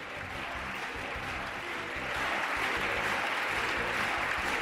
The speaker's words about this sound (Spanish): Frente a ellos, en pie y aplaudiendo, los partidos que apoyan esa reforma educativa que también defiende su impulsora, la ministra Isabel Celá.